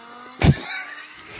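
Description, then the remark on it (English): Four Lamborghini cars driving on William Nicole, recorded with a dash cam camcorder from a car driving alongside: a sudden loud engine whoosh swells and fades within a moment, followed by a steady low road hum. “But, I mean, it was four Lamborghinis on William Nicole. That sounds like a Prius.”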